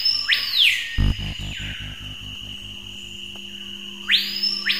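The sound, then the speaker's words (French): Screaming piha song, a bird called the paipaio in French Guiana: two loud, piercing whistled calls that sweep sharply upward, separated by a few seconds of steady, pulsing insect-like background buzz and a low rhythmic throb. “En Guyane française, on appelle cet oiseau le paipaio, mais on le croise aussi sous le nom de pioo, ou même de l'hypogus vociférans.”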